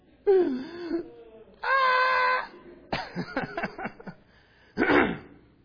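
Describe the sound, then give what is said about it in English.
A child's crying scream at home: a wavering wail, then a loud, sustained high-pitched shriek, followed by choppy gasping sobs and one final shrill outburst. “But when you know the real cry is this. It starts out, at least in our house, starts out with a loud scream, followed by a pause as they're sucking in every bit of air”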